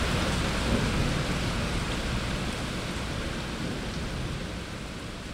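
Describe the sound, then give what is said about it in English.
A heavy, steady downpour roars continuously across the whole stretch, with low thunder rumbling beneath the dense hiss of rain, as the sky suddenly opens up over a city when the heat breaks after very hot days. No voices. “We'll have really, really hot days, and then suddenly the sky just opens up, and that's what's happening right now.”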